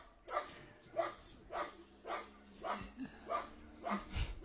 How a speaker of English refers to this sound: There was a dog. He had a bark.